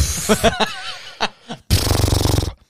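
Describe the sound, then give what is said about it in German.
A voice imitates the strained grunting effort made while pushing on a leg press, first in short broken bursts, then one long buzzing, gravelly push that trails off, loud with no words. “Damit alle denken, das ist das Standardgeräusch, was ich bei der Beinpresse mache.”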